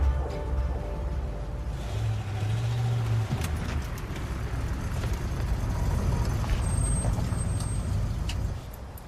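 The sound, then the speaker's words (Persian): A car engine rumbles at night, with a hiss of air brakes and some clanks as it pulls up and comes to a stop, then the sound drops away at the end. “آقا سرفت کجاست؟ ماشین آورده.”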